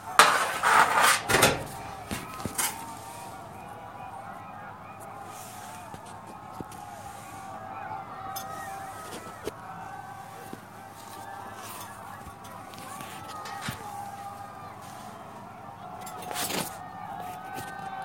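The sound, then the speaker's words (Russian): At night, believers on all sides keep shouting "Allahu Akbar" together, many voices overlapping into a steady, smeared chant that lasts throughout, with a few sharp clatters at the start and scattered clicks. “И, альхамдулля, со всех сторон, везде верующие кричат такбиры.”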